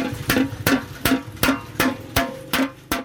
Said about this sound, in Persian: بر یک دیگ کلان میسی با چکش میکوبد. او تلاش دارد که این صنعت کهن را که از پدرش به او بازمانده را از نابودی نجات دهد. او بیش از 50 سال میشود که در بازار مسگری در شهر کنه هرات ظرفای میسی چون دیگ، کاسه، آفتابه و ظروف تزئینی میسازد.